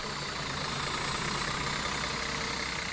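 tour bus engine idling

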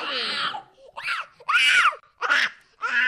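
toddler screaming

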